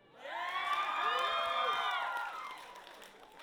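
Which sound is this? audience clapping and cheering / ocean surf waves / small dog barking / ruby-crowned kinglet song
audience clapping and cheering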